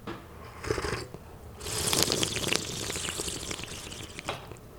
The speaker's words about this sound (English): So what we want to do is kind of divide this into three slurps. And slurping is extremely important. It's not impolite, it's actually polite. What we want to do is aerating it. It's almost like having a wine tasting. I will demonstrate it first.